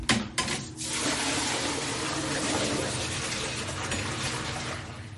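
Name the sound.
running water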